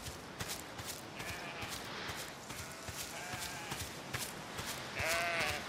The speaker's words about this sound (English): And I guess the sheep run away from me, which is really annoying.